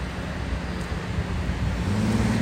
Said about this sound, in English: I'm nearly getting hit by cars. I don't know what's going on. I'm not wearing camouflage. It's like every time I do this thing, I have to have superpowers to leap over cars that don't want to stop as I cross the street.